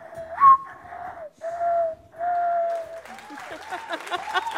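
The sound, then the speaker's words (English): A person whistles an imitation of a mourning dove during a bird quiz game on NPR's Ask Me Another, a few soft, hollow, drawn-out hoots in a slow sequence, followed by scattered applause and crowd noise. “Morning Dove.”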